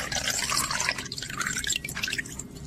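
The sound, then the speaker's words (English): Cognac being poured into a chilled crystal martini glass at minus 18.3 degrees: a steady trickling and splashing stream with bright, glassy dripping over about three seconds, with no voices. “It's already done, it's perfect. I can pour it right now.”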